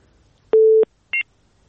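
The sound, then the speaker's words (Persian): A telephone busy tone from a listener's dropped call on a radio phone-in show sounds once as a steady, low electronic tone lasting about a third of a second, followed shortly by a brief, higher-pitched beep. No one speaks. “بله، شنونده ما قطع شد.”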